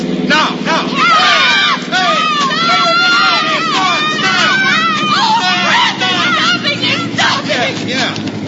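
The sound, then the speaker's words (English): A group of people yell and shout together loudly and continuously, their overlapping cries rising and falling over a steady low rumble, as they try to flag down an approaching car. “Here they come. Really yell it out now.”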